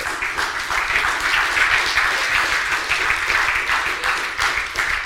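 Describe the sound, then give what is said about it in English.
An audience claps steadily and loudly for a man who led worship and preached on a Sunday morning, dense overlapping handclaps forming a continuous wash of applause that holds its level for the full five seconds, with no voices standing out. “Especially, yeah, clap if you want.”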